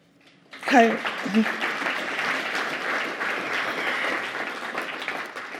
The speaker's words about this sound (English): This clapping is going to give me a seriously swollen ego. I'm just letting you know.